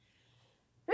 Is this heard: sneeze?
yes